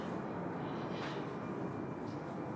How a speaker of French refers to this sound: Oui, on va juste attendre que l'avion... passe, voilà.